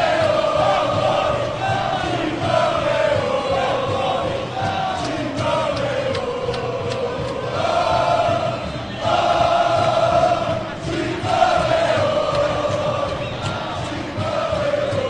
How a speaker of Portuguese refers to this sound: Que torcida espetacular, Afiel! Torcida corintiana calando o Mineirão.